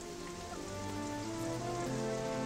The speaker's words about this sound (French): Un nuage craque. La pluie s'abat sur la passerelle.